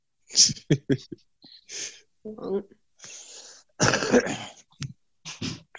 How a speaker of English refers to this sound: A lot of coughing. Jesus. We're fine.